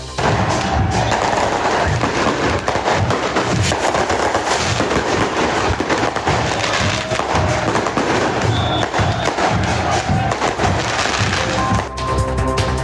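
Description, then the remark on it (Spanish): Dense, continuous fireworks set off during the wake of a Colo-Colo football fan killed in Pudahuel: rapid bursts of cracks and booming thumps pile up into a loud, chaotic barrage with no pauses, like firecrackers and rockets going off all at once. “En medio de fuegos artificiales se realiza el velatorio del hincha de Colo-Colo asesinado la tarde del domingo en Pudahuel.”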